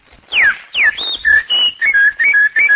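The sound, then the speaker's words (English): A sound effects man whistles an imitation of a birdsong without any mechanical device: a few swooping downward chirps, then a string of quick, bright warbling notes, loud, with no talking. “I whistle and twitter and sing like a bird.”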